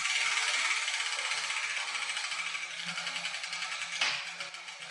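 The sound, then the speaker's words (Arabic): A hand-turned wheel spins with a steady, bright clattering rattle of rapid repetitive clicks, fading slightly, then a sharper knock near the end as a ball with a letter written on it drops out of the wheel and settles. “طيب يا جدتي، هذه الكرة سقطت من الدولاب، فأي حرف كتب عليها؟”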